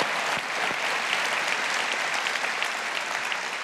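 An audience claps steadily and fairly loudly, a dense wash of many hands with no pauses, continuing for several seconds without any voices.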